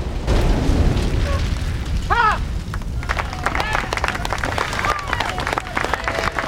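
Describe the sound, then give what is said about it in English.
A car explosion set off by remote during filming of the TV drama Above Suspicion: Silent Scream: a loud, deep roaring blast that rumbles on, giving way to sharp crackles and scattered pops as debris and flames settle, with brief shouted voices mixed in. “The car behind them blows up.”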